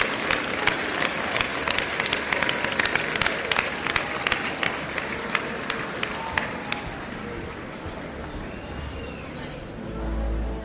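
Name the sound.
crowd applause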